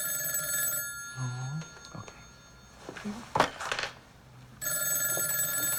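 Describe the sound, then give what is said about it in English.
A telephone bell rings loudly in two bursts, one at the start and another near the end, with a gap of quieter rustling and clattering sounds in between. “grabs one of the phones.”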